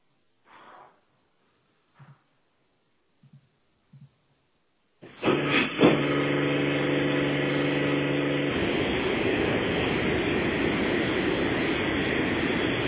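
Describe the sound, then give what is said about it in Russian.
A few faint knocks and clicks, then loud car wash machinery starts suddenly: a steady droning whine with humming tones that gives way to a constant, harsh rushing roar. “Да блин, тут работает эта мойка. Автомойка.”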